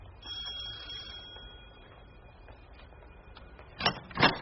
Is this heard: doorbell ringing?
yes